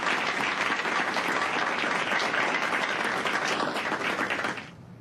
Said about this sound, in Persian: تشویق کنید.